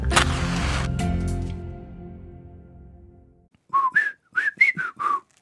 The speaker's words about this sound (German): hast du verstanden, was ich gepfiffen habe? Ich kann nicht pfeifen. Nein, das hat geheißen, hallo